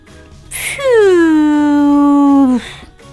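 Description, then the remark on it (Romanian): A person kneeling on a pavement imitates a car engine: a short sharp hiss, then a long steady voiced drone that slides down slightly in pitch, like a straining engine, ending in another brief hiss like a broken valve. “se așează brusc în genunchi pe trotuar și începe să scoată sunete ciudate de motor, apoi un șuierat, ca și cum ar fi o supapă stricată.”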